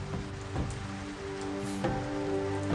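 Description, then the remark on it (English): Steady rain patters on a hard surface, a continuous hiss with scattered louder drops and a low, even background hum, no voices present. “But it's raining.”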